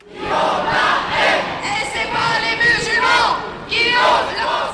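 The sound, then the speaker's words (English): Thousands of marchers at a march against Islamophobia in France chant loudly in rhythmic, repeated bursts, many voices rising and falling together in a steady marching cadence with a constant roar underneath. “And thousands of people marched in France and other cities against Islamophobia.”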